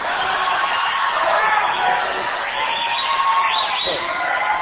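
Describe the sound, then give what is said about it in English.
A crowd applauds in a steady, dense wash of clapping and chatter, with a couple of high rising whoops and cheers breaking through toward the end. “They have already forgotten what they're applauding.”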